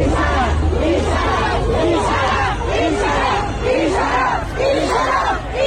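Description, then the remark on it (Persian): A large crowd of protesters in Shiraz, Iran, chants anti-government slogans in unison, loud and sustained, with a steady rhythmic cadence of repeated shouted phrases over a constant roar of voices. “در شیراز تجمع کنندگان علیه حکومت شعار سر دادند.”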